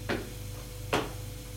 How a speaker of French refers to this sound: La porte s'ouvre.